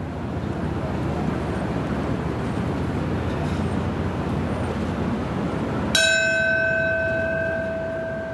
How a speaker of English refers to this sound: In New York, under murky skies near Ground Zero, bells and solemn reflection marked the exact times 6 years ago when two planes hit the World Trade Center towers.